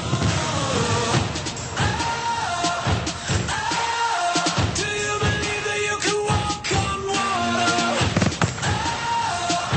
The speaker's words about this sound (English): Fireworks, America, and all its glory.